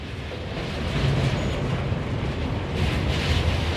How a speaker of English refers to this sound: A passenger train rumbles over Vyšehrad Railway Bridge.